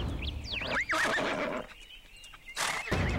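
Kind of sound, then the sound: animal, horse neighing and whinnying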